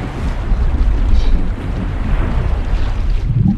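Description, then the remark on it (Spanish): A stormy sea roars without pause, heavy wind buffeting and waves surging in a dense, low rumble that stays loud throughout, with a deeper swell rising near the end. No voices. “Tremenda tormenta que viene por ahí.”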